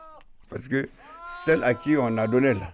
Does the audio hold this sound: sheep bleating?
yes